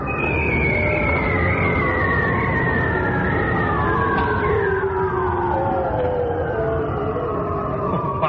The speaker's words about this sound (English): It's the sound of seals underwater calling out.